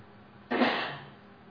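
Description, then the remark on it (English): A single sharp cough bursts out from an audience member during a sermon, moderately loud, then trails off quickly into quiet background hiss. No one is talking. “Well, I thought maybe you're going to cough and spit that one up.”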